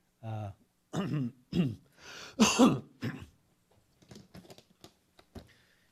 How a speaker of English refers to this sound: Do you have a hairball or something? You're coughing and... No, I don't have a hairball, oh.